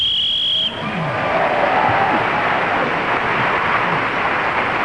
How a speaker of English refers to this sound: that extra loud cheer from the audience came for Jane Gibson for the way she blew her whistle then